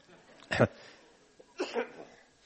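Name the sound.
coughing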